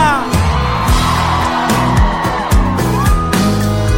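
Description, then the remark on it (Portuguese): A large crowd of single women in Goiânia, Brazil screams and whoops loudly and continuously for several seconds, energetic, answering a call to scream, with booming music pounding underneath. “Eu quero ouvir o grito da mulherada solteira aqui em Goiânia.”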